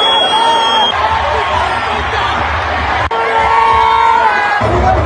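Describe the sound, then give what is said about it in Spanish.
A loud crowd at the Estadio Ciudad de los Deportes shouts and cheers continuously during the Liga MX women's final between América and Rayadas, including insults at the referees, with overlapping yells and whoops from many voices filling the whole stretch with dense, roaring noise. “Esas son algunas recopilaciones sonoras de lo que la gente a mi alrededor estaba gritando, incluyendo los insultos al arbitraje que sí fue cuestionable, pero todos fueron misóginos y hasta su gordofobia sacaron”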